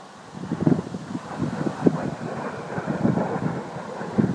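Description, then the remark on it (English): Gusty wind buffets a microphone, a continuous low rumbling roar with irregular thumping bursts that rise and fall throughout. “Oh, it's windy.”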